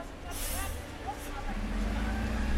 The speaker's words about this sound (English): waits for a bus at Dudley Station.